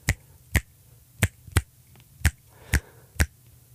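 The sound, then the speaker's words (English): Sharp hand claps tap out a syncopated clave rhythm, seven crisp hits in uneven groupings, played alone with no voices over them. “Listen to any hip-hop song, any rock song, you're going to hear that clave beat. Would you clap it?”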